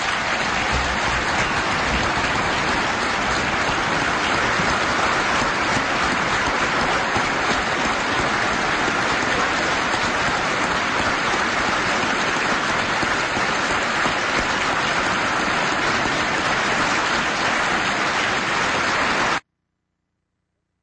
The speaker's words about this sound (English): If you look at that, everybody's applauding what Mother Teresa is saying, except two people.